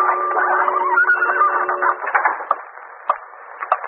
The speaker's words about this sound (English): What's that noise? Just a clock ticking off the minute. You don't think it's a bomb? No, I'm sure it isn't.